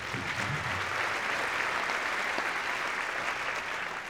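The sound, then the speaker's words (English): Steady audience applause after a song with cello fills the whole stretch, a dense, even patter of many hands clapping at a constant loudness with no voices standing out. “Ron's a little shy and he sneaks off every now and then before we have a chance to applaud for him, but he really plays that real pretty.”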